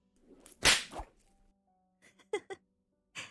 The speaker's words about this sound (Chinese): 对付他们这种，就需要用鞭子才行。